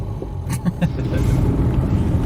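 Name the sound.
car driving slowly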